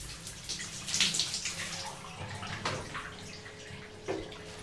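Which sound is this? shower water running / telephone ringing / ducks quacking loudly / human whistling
shower water running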